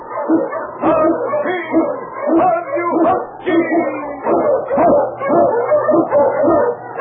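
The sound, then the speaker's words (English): A pack of Eskimo sled dogs, led by lead dog King, barks and howls loudly and continuously on the trail through storm and snow in the Yukon, with overlapping yelps and drawn-out cries filling the whole stretch and no break. “Wonder Dog King, swiftest and strongest of Eskimo lead dogs, blazes the trail through storm and snow for Sergeant Preston as he meets the Challenge of the Yukon.”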